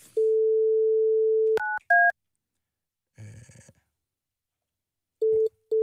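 A fax machine dials out: a steady low dial tone, then two short keypad beeps, a brief rustling burst, and the tone returning in short pulses at the end.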